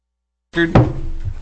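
A heavy metallic thump lands over a steady mechanical hum of a dumpster truck working outside the door during a legislative committee meeting, the low rumble carrying on afterward.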